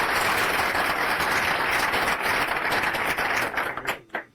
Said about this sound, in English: Round of applause for the speaker, please.